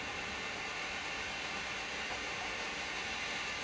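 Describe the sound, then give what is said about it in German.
An S-Bahn commuter train rumbles past in the evening in Mecklenburg-Vorpommern, Germany, in a steady, broad wash of noise with a faint metallic hiss, constant in level throughout with no voices. “Und die S-Bahn fuhr vorbei und die Skinheads randalierten.”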